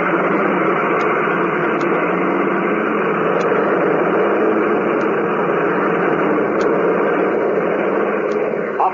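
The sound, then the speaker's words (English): A steady, loud airplane engine roar holds for the full nine seconds, a dense droning rumble with no voices over it, as the aircraft CX-4, flown by Hawk Harrigan, takes off after an all-clear from the control tower. “Okay, this is Hawk Harrigan taking off.”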